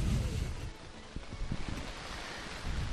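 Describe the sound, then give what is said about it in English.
Steady, loud wind roars and buffets the microphone on a rainy morning, with gusty low rumbles swelling at the start and end and dipping slightly in the middle. No one speaks. “Beautiful wind, too.”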